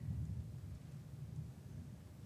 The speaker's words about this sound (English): The other, just listening to the thunder, I love thunder. Makes me want to go home and nap.